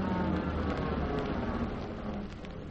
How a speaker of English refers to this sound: First car pulling up to stop.